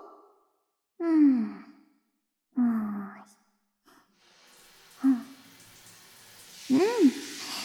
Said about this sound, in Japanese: 体洗い、おしまい。シャワーで泡流すよ。